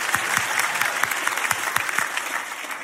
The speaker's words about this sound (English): Clap like it's not you. No one will know.